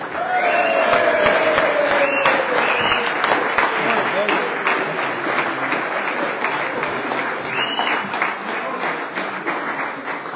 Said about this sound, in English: I almost feel like I'm in a pep rally with all the cheering going on here.